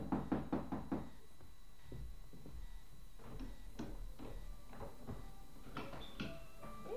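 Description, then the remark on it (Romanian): A quick burst of about five sharp knocks on the closed wooden door of a hut, followed by a few scattered, softer knocks and thuds over a quiet background with no voices. “Ciocănim și ne rugăm frumos”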